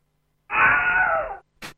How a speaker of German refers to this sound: Weil bei Private William oder Wilhelm, er wird von einem Pfeil getroffen im Bein und schreit halt. Aber Moment, vielleicht sollten wir ihn auch mal abspielen.